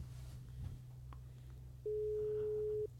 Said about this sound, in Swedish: Nu tar vi och ringer upp Erik Persson.